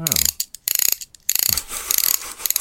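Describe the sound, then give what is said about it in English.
A Corgi Junior Growler series toy car's growler wheel whirs and rattles in quick ratcheting bursts, a buzzy mechanical rasp meant to mimic the engine of a Porsche 917 racing car, loud with brief pauses between spins and no talking. “And that is that's the very realistic sound, my friends, of a Porsche 917.”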